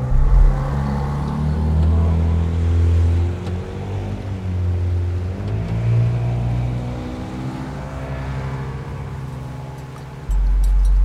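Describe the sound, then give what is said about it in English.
A boat's motor is started by its driver and drones loudly as the boat heads toward the open sea, its low rumbling pitch rising and falling as the throttle shifts, with a surge near the end. No one speaks. “He starts the engine and begins to pilot them towards the open sea.”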